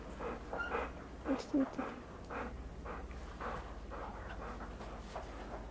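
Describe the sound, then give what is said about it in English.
A dog whimpers softly in a few short, high whines, with snuffly breathing and panting around them, fairly quiet. “my dog's gonna join us.”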